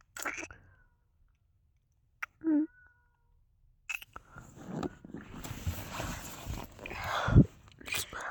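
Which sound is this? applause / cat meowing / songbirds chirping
cat meowing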